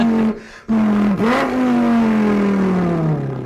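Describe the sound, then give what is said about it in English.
A man's voice mimics the engine of a car with a 5.2-liter V10 revving: a loud buzzing drone, a brief break like a gear change, then a swooping rev that settles into a long, slowly falling hum. “That is him doing. That's all him. I cut out the real sounds just to make it shorter.”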